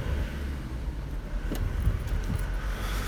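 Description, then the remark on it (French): A steady low engine rumble from trucks being parked on a city street by about ten men near the Jourdain stop of line 11, with a few brief metallic clinks and knocks rising over the drone. “Il y a une dizaine de mecs qui sont en train de se préparer, en train de garer leur camion qui loue tout.”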